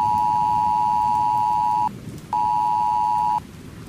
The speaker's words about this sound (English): And when my phone starts screaming at me with these newfangled weather alerts, that just plain old freaks me out, and I suspect I'm not alone.